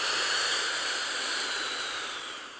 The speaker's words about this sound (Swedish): Jag tar min inhalator nu, för jag har varför? Lite astmatiska problem.